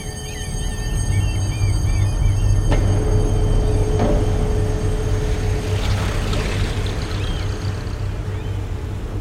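A boat engine drones steadily, a deep continuous rumble under broad wash noise, with a couple of brief metallic knocks partway through and no voices; the boat is approaching the harbour at Stavanger, Norway, in the dark and rain.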